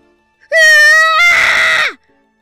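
A single loud, high-pitched scream of fear lasting about a second and a half, starting as a sustained shriek and turning raspy and strained before breaking off, from a person running away from a man chasing them, with no other sounds.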